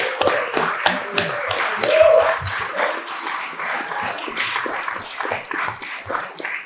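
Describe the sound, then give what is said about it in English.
A crowd at a political meeting bursts into sustained applause, a big cheer for the Liverpool Dockers: dense overlapping handclaps continuing steadily throughout, with scattered cheers and whoops rising briefly above the clapping. “And I think that every political meeting this weekend should start with a big cheer for the Liverpool Dockers.”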